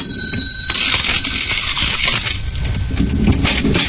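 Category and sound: machine, cash register ringing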